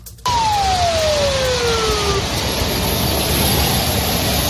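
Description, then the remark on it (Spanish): Armored vehicles and military trucks of the Wagner mercenary group roar past as they withdraw from the city of Rostov in southern Russia, a loud, steady engine rumble, while a high whine slides downward in pitch over the first two seconds. No one speaks. “Blindados, camiones, militares saliendo de la ciudad”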